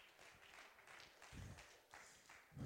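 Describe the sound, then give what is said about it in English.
A crowd claps in a steady, scattered patter, the sound swelling and easing over a few seconds. It stays fairly faint, with a few heavier low thumps mixed in. “You don't got to clap.”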